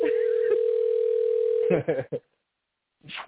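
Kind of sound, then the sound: signal or alarm, telephone call ringing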